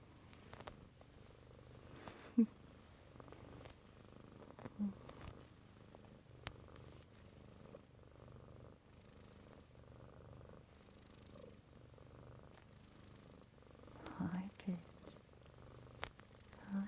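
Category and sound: animal, cat purring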